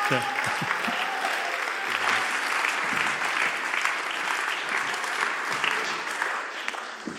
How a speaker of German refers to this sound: Und ich darf sie bitten, vielleicht gerade kurz jetzt auf die Bühne zu kommen und wir können vielleicht auch kurz klatschen, weil es ist genial, dass sie da jetzt mitwirken.